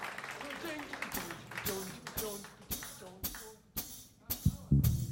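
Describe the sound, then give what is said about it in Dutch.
A run of sharp, evenly spaced claps, about eight in a steady beat, for the organist and electric guitarist at a live show, with voices talking and murmuring underneath, like a small audience clapping. “Applaus.”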